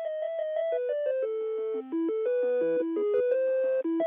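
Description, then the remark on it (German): Tinny, electronic telephone hold music plays a steady classical-style melody of stepping notes from a Beethoven piece, continuous and fairly loud, with no voices over it. “Wenn Beethoven gewusst hätte, was Telefongesellschaft mit seinem Stück veranstalten, er hätte die Noten verbrannt”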